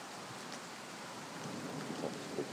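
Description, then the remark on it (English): Steady rain hisses throughout while a faint thunder rumble, coming 10 seconds or more after a lightning flash, rolls low underneath, with no voices present. “That's not that far away. It's 10 seconds or more away.”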